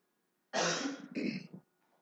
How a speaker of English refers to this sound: Excuse my cough.